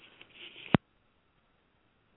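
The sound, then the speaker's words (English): Two abrupt, harsh bursts of coughing during a coughing attack, the first after a moment of breathy rustling and the second following a long silent pause. “I'm sitting here having a coughing attack.”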